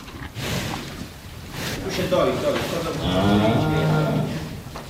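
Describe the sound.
Cows moo in long, drawn-out calls outside a stable on a farm in Dąbier, one low bellow stretching over several seconds amid a steady background hum, with voices murmuring faintly underneath.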